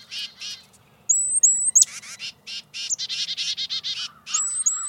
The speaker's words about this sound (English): Chickadees, which are related to titmice, can play a similar role. Both make alarm calls that can help warn other birds about predators.